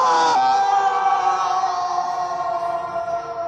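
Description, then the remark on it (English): A long, sustained yell from a man, a skier falling off a cliff, holds one strained, steady pitch for about 13 seconds, loud throughout and easing off only slightly toward the end. “Long skier yell sound.”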